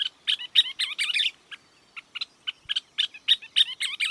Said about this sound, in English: That's one of the country's most unforgettable birds, a scissor-tailed flycatcher. And right now, they're migrating north to nest in the open country of Texas, Oklahoma, and the South Central region.